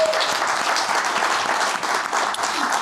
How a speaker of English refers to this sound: So just really well done. Big round of applause for Team Great.